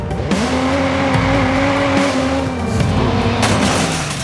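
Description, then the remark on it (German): A car in a video game where cars can be stolen drives with a steady engine drone, its pitch holding and shifting slightly, while tires squeal and skid in short bursts; loud, no talking. “Ja, man kann also Autos klauen, das ist tatsächlich wie GTA”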